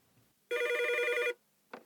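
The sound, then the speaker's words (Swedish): A telephone rings for a call from Sweden, once in a steady, bright electronic burst lasting under a second, loud, followed by the brief start of a second ring after a short pause. “Telefonsamtal från Sverige.”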